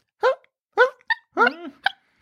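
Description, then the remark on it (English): A person's voice imitates a dog's sleepy, hiccup-like barking: about six short, soft yips and hics in an uneven rhythm, alone with no other talking; it imitates the dog Melody barking in her sleep. “Melody, when she's barking in her sleep, makes sounds that are like hiccups.”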